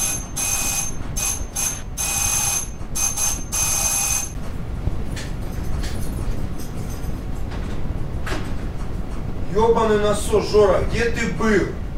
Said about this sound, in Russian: О, тихо, кто-то звонит в дверь. Тихо, тихо, тихо.